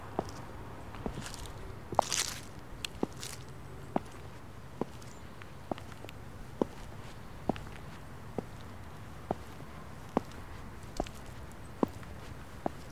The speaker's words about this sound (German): Begib dich also zurück in die Natur. Orientiere dich dabei immer am Rhythmus meiner Schritte.